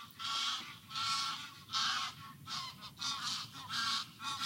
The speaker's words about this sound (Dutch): Ik vind ze heerlijk, die ganzen. Maar ze schreeuwen wel overal doorheen.